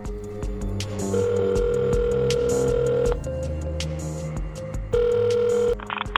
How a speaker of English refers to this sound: It was 11 in the morning and my alarm was about to buzz. Before it could, though, a phone call woke me up.